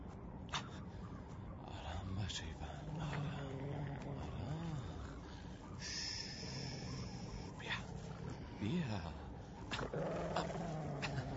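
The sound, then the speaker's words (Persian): A wolf called Ivan snarls and growls while gnawing a bone brought to it as food in the snow, low rumbling sounds rising and falling continuously, with occasional snorts and crunchy chewing noises. “بیا برات غذا آوردم. میدانم توی این برف زیاد غذا به سختی گیر میاری. گرگی؟ گرگی؟”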